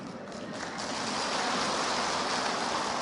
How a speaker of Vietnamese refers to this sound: Vỗ tay thì to thế. À, vỗ tay bé thế chứ.